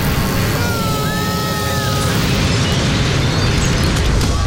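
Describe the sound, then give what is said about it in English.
An aircraft crash explosion: a loud, dense roaring blast that rumbles on steadily for several seconds, with a thin whining tone sliding through the noise early on. No voices. “Do something or we crash into that orphanage.”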